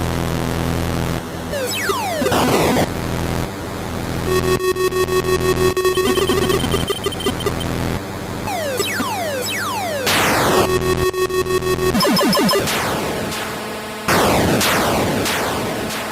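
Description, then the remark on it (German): Chiptune-style retro game sound effects: rapid bursts of classic bleepy laser-like gunshots with falling pitch sweeps, layered over loud hissing explosion sounds from the sound chip's noise generator that swell and cut off in repeated waves, with no talking. “Darüber gelegt die klassischen Schussgeräusche. Die sind leicht erkennbar.”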